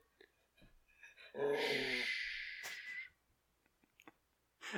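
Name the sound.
dog growling and yipping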